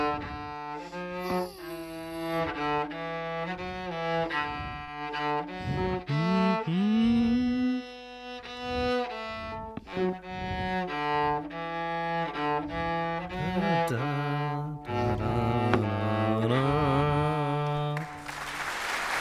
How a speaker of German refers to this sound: Ich würde das gerne mal hören, dein Cello.